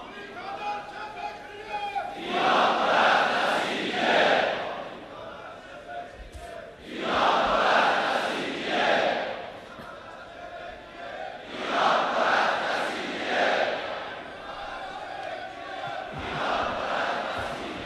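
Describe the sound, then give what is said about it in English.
A large crowd chants political slogans in unison, four loud rhythmic bursts of massed voices roughly every few seconds, each rising and fading with brief lulls of crowd murmur between them. “Chant those slogans in due time.”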